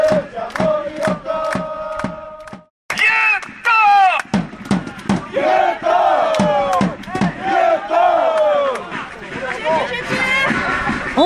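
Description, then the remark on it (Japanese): Grulla Morioka football supporters loudly chant in unison for goalkeeper Koizumi after he saved an opposing shot, in a match against Fukushima United FC, starting with sharp rhythmic claps under a sustained tone, then a brief pause before a massed crowd of voices erupts into repeated cheering calls. “相手チームのシュートを見事止めたゴールキーパーの小泉選手への掛け声です。”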